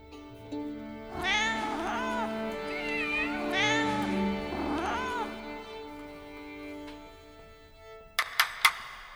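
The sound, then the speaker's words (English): Several cats meow in overlapping, wavering cries, rising and falling like instruments tuning, over a sustained low hum, followed by a few sharp clicks at the end, as the classical cats tune up for Maestro Leopold. “Are all the classical cats ready to play? Yes, Maestro. Then let's tune up.”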